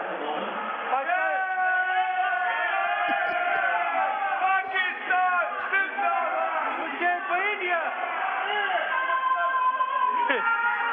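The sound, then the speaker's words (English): A crowd of over 50 people cheers loudly and continuously for Pakistan during an India–Pakistan cricket match. Many voices shout and whoop over one another in a sustained, dense roar that barely lets up from start to finish. “I want you to hold the phone up, and I want you to ask, first of all, who's cheering for India, and then who's cheering for Pakistan?”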